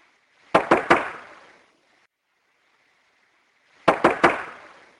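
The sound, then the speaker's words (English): Two bursts of three loud, rapid knocks recorded in Washington State, each sharp strike ringing out briefly, separated by a few seconds of quiet with a steady, faint hiss in the background. “Let me play the massive triple knock.”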